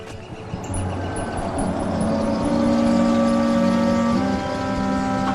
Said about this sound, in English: Tom parks the car at a street's dead end.